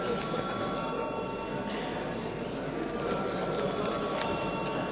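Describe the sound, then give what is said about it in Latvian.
An electric voting bell rings in the Latvian parliament (Saeima) before a vote on sending a bill to committee, a harsh, steady metallic buzz without a break that stays at the same level from start to finish. “Lūdzu zvanu.”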